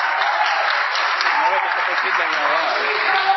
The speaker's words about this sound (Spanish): Yo estaba aquí sin privilegio. ¡Aplausos allá!